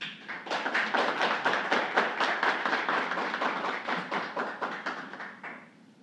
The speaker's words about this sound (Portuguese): Os nossos homenageados, por favor, que fiquem de pé, recebendo os aplausos de todos nós aqui. Parabéns.